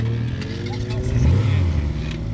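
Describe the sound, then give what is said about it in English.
A small race car with a three-cylinder Suzuki car engine, weighing just under 1,000 pounds, 10 feet long and 5 feet wide at the front wheels, accelerates with a buzzy, rising growl that swells midway and then holds steady, while people talk nearby. “Same car, but they're upgrading by putting Suzuki engines in.”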